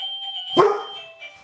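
A doorbell rings with steady tones, then a dog lets out a sharp, loud bark over it, followed by quieter yelps and shuffling as the chime fades.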